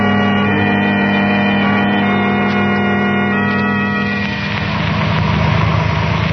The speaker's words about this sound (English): The car with Herbert and the girls just pulling over to the curb, Dr. Dharma.